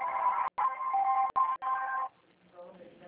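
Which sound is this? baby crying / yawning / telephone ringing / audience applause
telephone ringing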